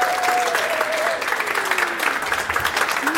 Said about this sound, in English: So without further ado, please first of all give a round of applause, everybody, to an amazing comedian and podcaster.